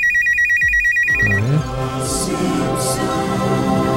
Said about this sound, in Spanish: Contesten rápido tu teléfono porque son tus amigotes para invitarte una cerveza.